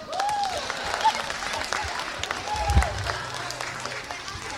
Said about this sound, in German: Und einen großen Applaus für den 2. Platz, Klassensprecher, Klassensprecherin der Klasse 7b.